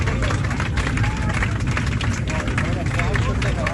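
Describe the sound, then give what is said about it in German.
Passengers applaud as their 757 lands in Frankfurt at 16:15, a dense steady clatter of many hands clapping with crowd chatter and a low cabin rumble underneath, sustained throughout. “Dann um 16.15 Uhr gab es Applaus in der 757.”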